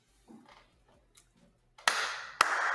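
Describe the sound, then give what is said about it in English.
After a quiet, sparse start, a sudden burst of dense clapping breaks out and holds steady to the end, with a sharp loud crack partway through the applause. “I don't know if you can hear that, but that's applause.”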